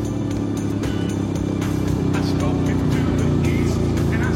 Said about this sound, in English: Nighttime, Buddy grins as he drives a red sports car through town with the license plate PNS car.